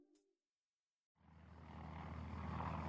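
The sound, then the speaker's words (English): After a moment of silence, the heavy droning roar of a large silver propeller transport plane swells in and holds steady as it descends on 14 June 1934, banking over the Adriatic and coming in low toward Venice, a loud, throbbing engine rumble with a broad wash of air noise. “A large silver transport plane descends from an azure sky.”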